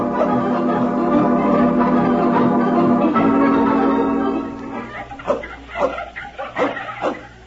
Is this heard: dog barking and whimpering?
yes